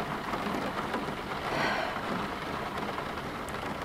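Steady rain falls, a dense, even hiss of drops spread across the whole clip, moderately loud, with no voices over it.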